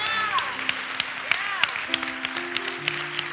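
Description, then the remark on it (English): A church audience applauds with steady, dense clapping, sharp individual claps standing out, while sustained tones and faint voices carry underneath. “Give them a hand clap.”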